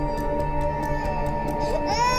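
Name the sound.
newborn baby crying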